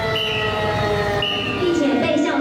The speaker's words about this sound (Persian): آژیر خطر در پایتخت تایوان.